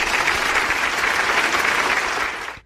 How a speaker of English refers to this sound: Round of applause for him.